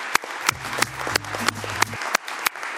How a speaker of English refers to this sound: Thank you very much to Zambia. A round of applause.